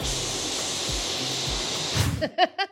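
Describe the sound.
A voice imitates a white noise machine with a loud, steady, breathy hiss that lasts about two seconds, then breaks off into a few short voiced bursts, like quick laughs.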